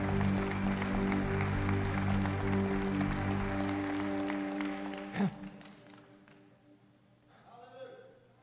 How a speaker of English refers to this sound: Yeah, so one more time, a hand clap of love and appreciation, if you will.